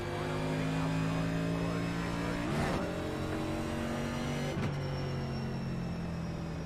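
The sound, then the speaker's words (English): A race car engine drones at a steady pitch with strong harmonics, broken twice by sharp bursts of noise as the tone dips while the driver brakes to avoid other cars early in a race, with an air temperature of 85°F. “Wow, we're already hitting brakes and trying to miss people.”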